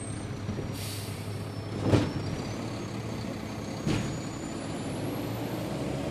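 A trash truck in a neighborhood at 6:30 on a Tuesday morning, heard in the distance and moving closer: a steady low engine drone broken by two sharp hissing bursts like air brakes, one around two seconds in and another near four.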